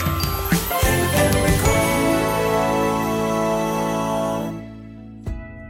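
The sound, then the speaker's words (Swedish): A telephone rings with bright, tinkling bell-like tones that hold steady for several seconds, then fade out, followed by a short click. “Det ringer, det ringer.”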